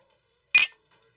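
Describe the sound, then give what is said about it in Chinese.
A single bright clink of glasses touching in a toast to friendship, a short ringing chime that fades quickly, heard alone against near silence. “来来来，喝，为了我们的纯友谊，干杯。”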